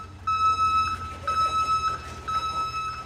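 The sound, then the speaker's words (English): A garbage truck's reversing alarm sounds three long, evenly spaced loud beeps over a steady low engine rumble as the truck backs into the covered garage of a city garbage transfer station to dump a load for the compactor. “Every few minutes, a truck backs into the covered garage to dump a load of garbage for the compactor to crush.”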